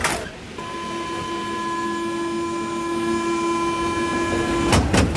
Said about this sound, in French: Là, on est dans le métro